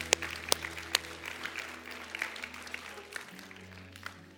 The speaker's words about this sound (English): Let's give everyone a hand clap. They just prayed that prayer.